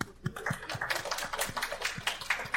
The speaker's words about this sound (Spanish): Mira, hay varios aquí que ya tenemos más de 30 años de casado. Hay un aplauso para ellos.